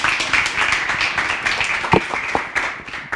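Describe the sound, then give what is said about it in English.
An audience breaks into a round of applause welcoming a speaker to the microphone, a dense, steady wash of many hands clapping with a few sharper individual claps standing out, sustained at an even level throughout. “a round of applause and welcome her to the microphone.”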